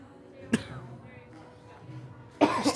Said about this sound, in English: Starts it off with a cough. Off to a good start. We're all sick. It's fine.